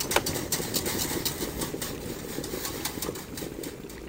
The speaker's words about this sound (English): I've added a teaspoon of sugar to the boiling water, and now I'm whisking in the agar-agar.